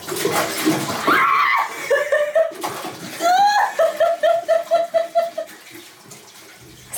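liquid being poured out

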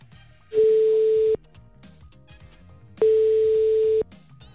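telephone ringing tone

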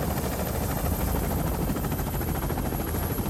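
helicopter flying

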